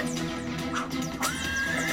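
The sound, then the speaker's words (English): A horse whinnies once, a drawn-out, wavering neigh rising out of a dense, steady background of sound and fading near the end. “I straddled my horse and set off at gallop for the Holy City.”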